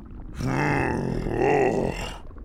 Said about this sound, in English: That was a good one. Whoa, here we go again. This feels so good. I just love having a big, fat, furry belly. And it just keeps growing and growing with every belch.